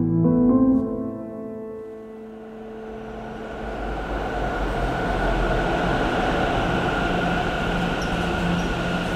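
Train rumbling through Chaussée-d'Antin–La Fayette metro station in Paris, 2014: a steady low mechanical roar and faint tonal whine, opening with a brief louder burst, then a sustained broad hum without speech.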